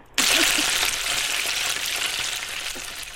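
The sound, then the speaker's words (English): Bacon frying in a pan sound effect, a loud, steady crackling sizzle that starts abruptly and holds continuous for a few seconds, with scattered pops and no voices. “I'm going to hit my bacon frying sound effect, and you tell us your bacon joke, okay?”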